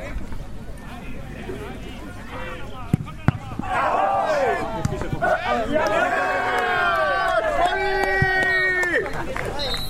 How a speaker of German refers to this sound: Fleißig waren auch die Zuschauer, die beide Mannschaften anfeuerten. Pauli, mach ihn weg!